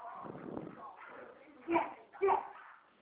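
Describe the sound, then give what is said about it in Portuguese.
Two short, sharp dog barks about half a second apart, muffled as if over a phone line, following a stretch of faint background murmur. “Cachorro tá latindo, viu?”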